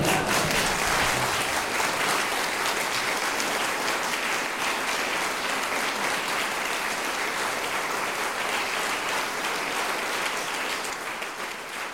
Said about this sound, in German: Viel Spaß, das ist euer Applaus.